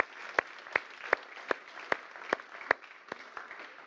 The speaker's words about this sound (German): Geben wir einen kräftigen Applaus.